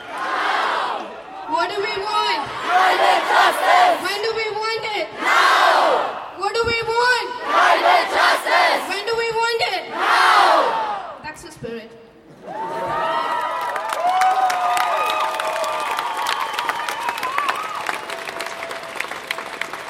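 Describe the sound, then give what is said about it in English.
A large climate justice protest crowd chants loudly in rhythmic, repeated bursts of shouted voices, then breaks into sustained cheering and applause with scattered whoops. “We have never had such a huge crowd back in India because people there are still learning to accept and acknowledge climate crisis.”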